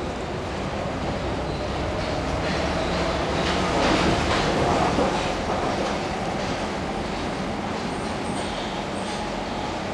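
A metro train rumbles steadily along its rails, a loud, continuous roar with faint rhythmic clatter and a swell of noise midway, heard from inside the carriage.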